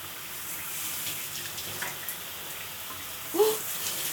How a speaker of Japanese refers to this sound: どうぞこちらにお座りくださいませ。 そうしましたら、まずはシャワーを。